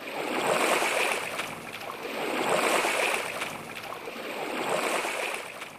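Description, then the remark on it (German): Oars splash and swish through water as people row a boat in a slow, steady rhythm, about three strokes swelling and fading, moderately loud with no voices. “Sie stiegen ein und fingen an zu rudern.”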